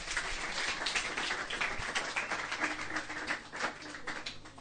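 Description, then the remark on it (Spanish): A church audience applauds the actor: a dense, steady wash of many hands clapping together, bright and crackly, holding at an even level for the whole few seconds with no voices over it. “Un aplauso al actor.”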